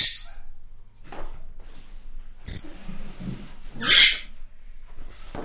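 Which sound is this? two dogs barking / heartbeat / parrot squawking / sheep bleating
parrot squawking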